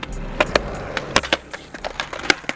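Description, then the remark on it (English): Hard plastic skateboard wheels rolling over concrete with a low, steady drone, broken by a series of sharp slapping cracks at irregular intervals, the loudest landing in the middle and at the end. “We all know the sound, the harsh slap crack of hard plastic on concrete, followed by the drone of rolling wheels.”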